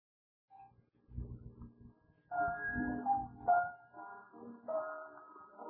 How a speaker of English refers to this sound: Oh, look, Angela's sitting down at the piano.